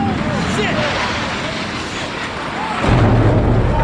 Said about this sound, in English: A huge explosion now raining debris on all of us. We better get out of the way.